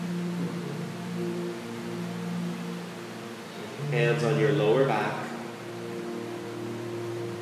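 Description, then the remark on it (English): A steady wash of falling rain in Bali hisses throughout, mixed with a low sustained drone, while a calm voice speaks briefly midway over the constant patter. “Mother Bali gives us the rain.”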